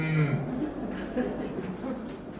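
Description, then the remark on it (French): A man's voice gives a short, low, drawn-out moo in imitation of a cow, followed by soft chuckling and murmured vocal sounds. “Il y a des vaches dans les prés. Elles lèvent la tête et elles voient un train passer.”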